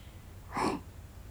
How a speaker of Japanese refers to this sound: 大きなあくびじゃね。